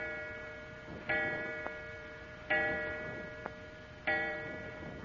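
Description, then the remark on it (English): A clock strikes with three slow, evenly spaced chimes, each ringing out and fading before the next. Faint ticking sounds in the gaps, with no voices. “The clock, it struck 4 times.”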